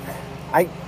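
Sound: dogs barking in backyard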